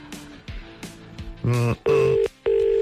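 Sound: telephone ringing tone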